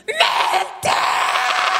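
A dramatic, drawn-out scream from a single male voice doing a Wicked Witch of the West impression, screaming "I'm melting!", loud, breaking briefly before surging back even stronger.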